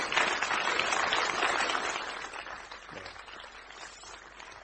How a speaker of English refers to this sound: Thank you. Hey, let's give these guys a round of applause.